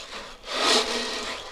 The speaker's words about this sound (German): Die Partygäste bilden nämlich zusammen ein Geburtstagsorchester mit Gitarre, Cello und einer Trommel, die mit kleinen Körnchen gefüllt ist. Und was macht man mit der? Den Wind und den Regen.